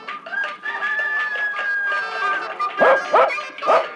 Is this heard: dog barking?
yes